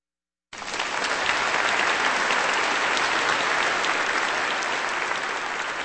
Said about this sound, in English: That applause for the Chicago Gargoyle Brass and Organ Company with the Ecclesiastical Festival Overture on A Mighty Fortress Is Our God, put together by composer Otto Nicolai on Kansas Public Radio.